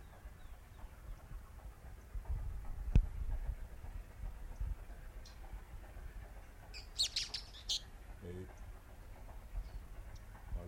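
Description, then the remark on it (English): Three birds chirp in a quick cluster of high, bright notes, with a few fainter tweets scattered earlier, all over a steady low rumbling background. “Three birds.”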